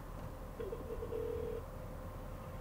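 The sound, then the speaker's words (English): A faint telephone ring heard down the line as a telephone call is being placed: a single buzzy ringback tone lasting about a second, muffled and thin over a steady hiss of line noise, with no one talking. “And as you can hear, the speaker has gone dead, and soon you'll hear the phone ringing.”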